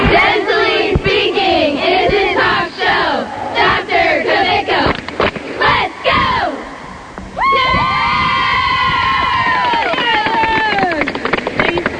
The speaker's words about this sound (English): Do that cheer one more time. Ready? Five, six, seven.